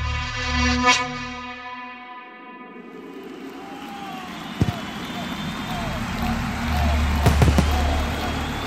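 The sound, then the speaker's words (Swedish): Fireworks burst in the air over a giant arena at the opening of the Winter Olympics in Salt Lake City in February 2002, with light snow falling: one sharp bang and then a quick cluster of cracks, echoing over a steady rumbling crowd-like roar. “Lätt snö faller över en gigantisk arena medan fyrverkerier smäller i luften.”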